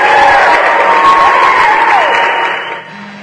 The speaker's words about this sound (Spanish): Unos muy merecidos aplausos para Guadalajara 13, que se ganó una de las alcancías conmemorativas por los 5 años de la defensa del deudor en México